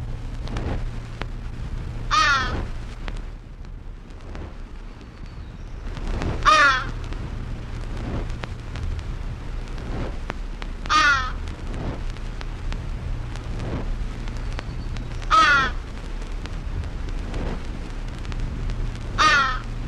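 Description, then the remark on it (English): A common crow caws five times at fairly regular intervals, each harsh call standing out clearly over a steady low background hum, with no voices present. “Common Crow.”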